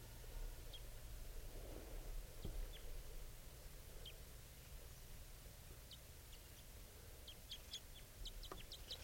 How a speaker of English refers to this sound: Meanwhile, the first male is approaching. That's him chittering at approach. That captured that male.